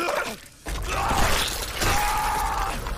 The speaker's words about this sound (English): A force twists and snaps Hanzo's bones.